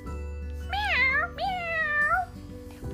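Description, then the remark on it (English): Two drawn-out cat meows in quick succession, each rising and then falling in pitch, clear over a low, steady background hum. “Mewed the cat.”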